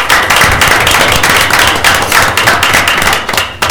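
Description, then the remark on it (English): A round of applause from a group at an Oregon School Board meeting, for the newly elected board president, steady and loud, with dense overlapping claps forming a continuous crackling wash for several seconds, no voices audible. “Can we give a round of applause to Ms.”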